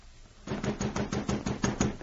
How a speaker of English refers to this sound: Well, along about midnight, I heard someone pounding on the door. I got up out of bed and went to see who it was.